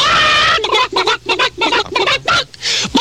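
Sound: chickens squawking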